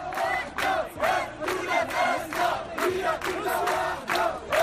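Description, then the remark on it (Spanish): A large crowd of protesters in Alhucemas, in the Rif region, chants in unison, demanding a university, a hospital and new infrastructure for the region; loud voices rise and fall in a steady, repeated rhythm of short shouted phrases, with no single voice standing out. “Han gritado los manifestantes en alusión a la reivindicación de la construcción de una universidad, de un hospital o de nuevas infraestructuras para la región del Rif.”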